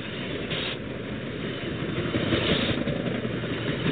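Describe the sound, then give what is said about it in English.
A steady, continuous low rumble of a train engine, played as a "Trump train" sound effect on the First District Politics show, a dense chugging roar that holds at an even loudness for the whole stretch, with no voices. “It's about the extent of our sound effects on First District Politics. The Trump train.”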